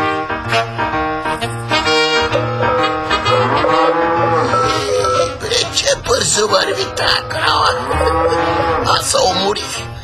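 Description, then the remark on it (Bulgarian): A cow moos loudly, with long, drawn-out lows that rise and fall in pitch across the stretch, set against a steady, dense background, as it is driven along on the way to a fair. “Я хайде, краво, към панира!”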